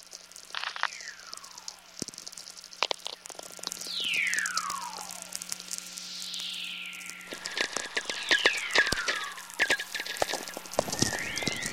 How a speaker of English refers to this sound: There's just a whole litany of different natural radio sounds to record. Hisslers and growlers and howlers and tweaks. These clusters like a pack of dogs barking.